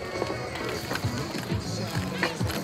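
Roller skates of five rhythm roller skaters gliding in a synchronized row roll over the asphalt of a former airport runway with a steady gritty rumble, broken by regular thumping strides about every half second, moderately loud.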